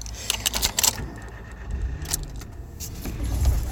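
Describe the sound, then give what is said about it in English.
Car engine and road rumble hum steadily from inside a moving car as it pulls into a car park on the way to collect a cot from a charity, with a cluster of light metallic jangles and clicks early on and a few more faint clicks later. “I'm just pulling into the car park.”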